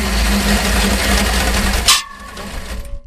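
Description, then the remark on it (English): A V8-engine chainsaw belonging to a South Australian farmer roars loudly and steadily for about two seconds, then abruptly cuts out, leaving a fading mechanical hum and faint rattles. “South Australian farmer Glenn Simpson speaking to Elsie Adamo about his V8 engine chainsaw”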